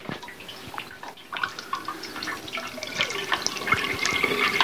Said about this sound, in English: And that's the hot water tap.